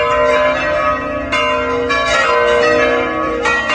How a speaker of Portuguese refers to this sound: Os sinos da Catedral da Diocese de Grajaú, no Maranhão, anunciam a nomeação do novo bispo, padre Giuseppe Luigi Espiga.